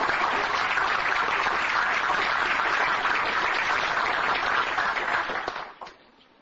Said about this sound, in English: I'm going to interrupt you and say, yes, how about a round of applause for our new person?